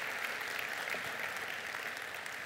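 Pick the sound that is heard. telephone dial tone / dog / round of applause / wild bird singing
round of applause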